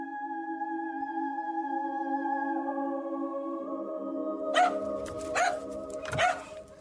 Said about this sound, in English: My dog came down kind of barking at the bedroom door, which is not unusual because he would often come down.